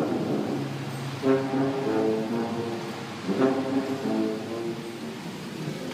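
tuba playing

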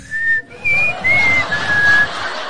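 person whistling a tune

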